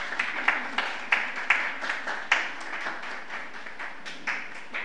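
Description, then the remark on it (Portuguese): A round of applause at a ceremony as an honorary title is handed over, dense overlapping claps with a few sharper, louder slaps standing out, sustained steadily for several seconds before thinning slightly toward the end. “Salva de palmas.”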